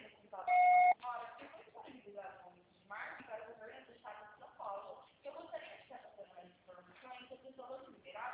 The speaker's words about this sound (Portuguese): Grave o seu recado. Você só será tarifado após o sinal.